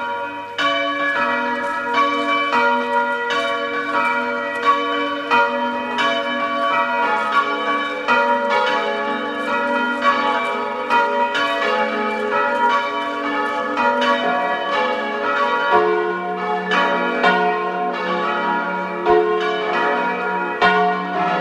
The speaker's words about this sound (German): Es ist 12 Uhr. Sie hören die Glocken der Stiftskirche des Augustinerchorherrenstiftes Neustift in Südtirol.